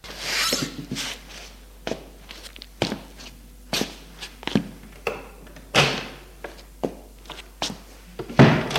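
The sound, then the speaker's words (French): Steady footsteps cross a room as a woman calmly gets up and leaves, a dozen or so even treads, ending in a louder thump as the door shuts. No one speaks. “Elle se lève calmement et sort de la pièce.”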